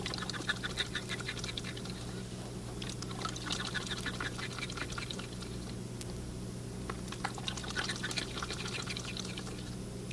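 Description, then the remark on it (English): A thirsty zoo duck drinks water it has been given, making quick, wet dabbling and slurping clicks in irregular bursts over a steady low background hum, with no one talking. “How he lets the water roll down his throat.”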